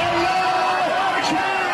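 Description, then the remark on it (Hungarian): A large crowd cheers and shouts in celebration in the streets of Tehran, Iran, as missiles are launched toward Israel: a dense, continuous roar, many voices overlapping loudly with occasional higher whoops rising above the din. “Teherán utcáin ünneplő tömeg éjjelzett, amikor kilőtték a zsidó állam felé tartó rakétákat.”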